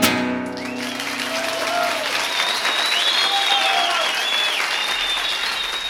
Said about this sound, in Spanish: Qué lindo, los aplausos a todos juntos.